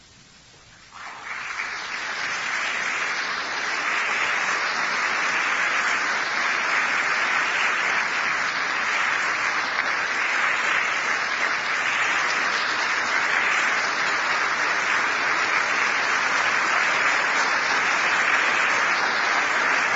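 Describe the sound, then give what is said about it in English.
Steady audience applause rises within the first second and then holds at a loud, even level, a dense crackle of many hands clapping with no voices heard over it. “I didn't mean to entertain you to be applauded or for applause.”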